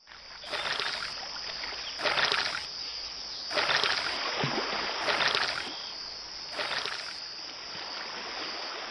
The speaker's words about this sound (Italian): Misero le pistole sui banchi, afferrarono i remi e si spinsero al largo, rimontando il fiume.